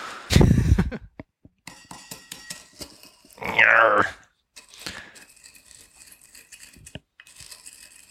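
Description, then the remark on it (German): Sugar being muddled in a glass until dissolved while making a cocktail: a heavy thump, then irregular gritty grinding and scraping strokes, with one louder, harsher scrape midway before quieter crunching resumes. No voices. “Ja, Moment, beim Auflösen kann ich jetzt ja nachhelfen. Nämlich muddle until dissolved.”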